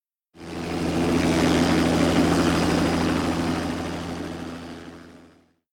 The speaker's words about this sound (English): Suddenly he heard a noise above him. He looked up and saw an Inuit air helicopter.